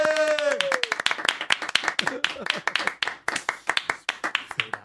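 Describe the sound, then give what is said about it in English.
Rapid, sharp hand claps go on steadily for several seconds, loud and slightly uneven in rhythm, with a voice cheering briefly at the start and faint voices mixed in. “I can clap longer than you. Are you trying to clap longer than me?”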